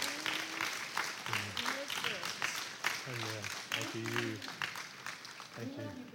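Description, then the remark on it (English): A church audience standing to applaud the pastor, dense rapid clapping filling the whole stretch, with scattered cheers and shouting voices rising above it at moments. “And I'd like you guys to stand to your feet and give them an uproarious applause.”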